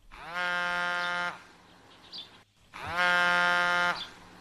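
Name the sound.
mobile phone ringing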